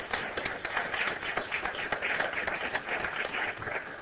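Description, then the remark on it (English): A crowd applauds steadily for several seconds, a dense wash of many overlapping hand claps with no pauses and no voices rising above it. “And I'd like to begin with a round of applause for all the work they've done already in doing this.”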